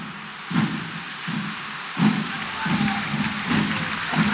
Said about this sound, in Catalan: Aplaudeix el públic perquè hi ha una encesa a la davallada. Amb el so dels timbals.